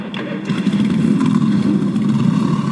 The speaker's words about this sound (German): ich darf euch bitten, zum Abschluss der Veranstaltung, zum Lobe Gottes, noch einmal eure Motorrad sprechen zu lassen.